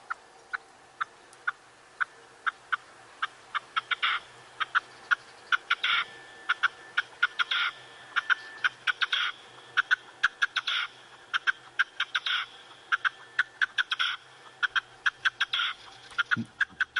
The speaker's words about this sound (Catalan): Aquest, clar, no l'ubiques perquè, desgraciadament, ara cada vegada se sent menys als nostres camps, però és un ocell, és la perdiu roja, molt comú abans, ara ja no tant